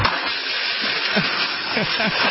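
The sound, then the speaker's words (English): A loud, steady rush of pennies pouring into post office totes at the DMV, brought to pay for registering two vehicles: a dense unbroken clatter that fills the whole clip, with a faint voice buried underneath. “You were being drowned out by the pennies.”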